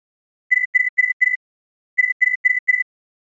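A mobile phone ringtone trills in two quick bursts of four electronic beeps each, separated by a short pause. It sounds clear, with no voices over it.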